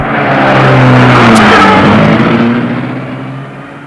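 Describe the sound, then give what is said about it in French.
A car engine starts in front of the entrance of a residence on boulevard des Belges and revs loudly, its pitch rising as it pulls away, then the sound gradually fades as the car drives off. “La voiture démarre.”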